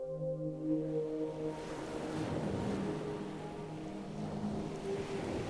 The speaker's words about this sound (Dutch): Ook hoor je nu in de verte het zachte geruis van de zee. De geluiden komen steeds dichterbij, tot je uiteindelijk ook de prachtige zee ziet verschijnen.